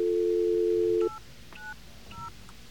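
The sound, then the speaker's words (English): A steady telephone dial tone hums for about a second, then cuts off as three touch-tone keypresses beep in sequence, each a short two-pitch electronic chirp, with no one speaking. “Now we're going to dial away.”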